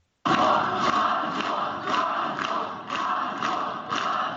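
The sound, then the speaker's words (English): A large crowd gathered outside the jail where Siarhei Tsikhanouskasi, husband of presidential candidate Svyatlana Tsikhanouskaya, is held roars and chants in a steady, dense wash of voices, with rhythmic surges every half second or so suggesting collective chanting or clapping, loud and continuous throughout. “A crowd of people today gathered outside the jail where Siarhei Tsikhanouskasi is being held.”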